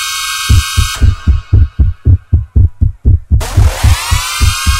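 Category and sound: sound effect, heartbeat thumping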